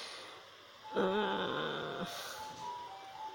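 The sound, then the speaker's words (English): An ice cream vendor's tricycle goes by, its tinny, warbling jingle rising loudly for about a second, then fading into a few thinner tones against quiet outdoor background. “I can't really say it's a truck. Ice cream. Tricycle?”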